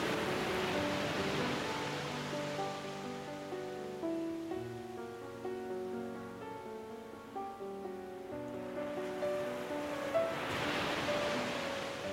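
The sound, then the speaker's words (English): Ocean waves wash and break steadily along the shore, a soft continuous surf that swells at the start and end, layered under calm sustained musical tones. No voices. “Feel the wonder like a child as you play in the ocean.”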